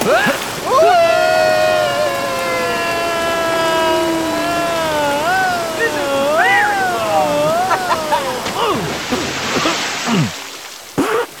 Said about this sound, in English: Are we jumping down this long, previously unestablished water slide that leads directly to the temple's entrance, or what? Let's go!